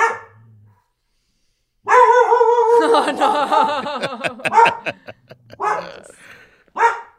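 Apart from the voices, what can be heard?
dog barking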